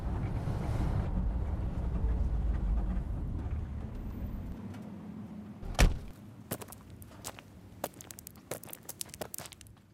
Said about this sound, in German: Ich parke das Auto auf dem Kiesplatz direkt in der Kurve in Jachenau.